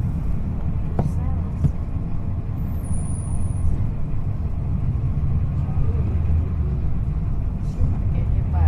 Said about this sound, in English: This really is quite a shopping scene back here. This is Magazine Street. The bus comes right in. We're getting close to the Garden District now.